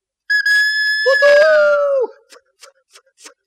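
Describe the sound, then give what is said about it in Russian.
A steam locomotive whistle blows one long, shrill, slightly wavering blast that deepens into a two-note chord before cutting off, followed by four short, evenly spaced puffs of steam. “И вдруг ему навстречу выехал паровоз.”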